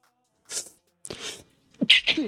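A quick run of sneezes, three or four sharp, breathy bursts, the last two coming right on top of each other.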